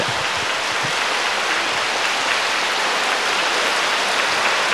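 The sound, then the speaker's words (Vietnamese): Sustained applause from an audience in a hall honoring a Buddhist Most Venerable monk as he receives a record certification, a dense, steady wash of clapping that stays loud and even throughout with no voices on top. “Và các vị tiếp tục cho một tràng pháo tay.”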